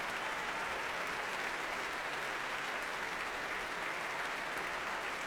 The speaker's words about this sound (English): Michael Barenboim coming on stage again here at the Royal Albert Hall to accept this huge applause.